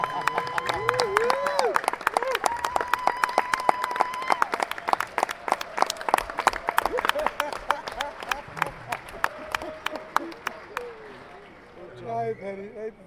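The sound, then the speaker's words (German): Dense audience applause with rapid overlapping claps and some cheering tones, loud and sustained for about eleven seconds before cutting off, followed by brief faint voices. “Jawohl, gib einen Applaus für die Telefonumfrage.”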